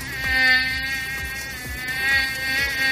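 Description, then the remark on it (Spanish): A mosquito whines steadily, its high-pitched buzz rising and falling slightly in pitch as it hovers, with no voices present; a summer sound in Madrid. “Sí, estamos hablando de los molestos mosquitos. Tan molesto este sonido como las picaduras que producen, especialmente por la noche cuando estamos dormidos y no nos damos cuenta.”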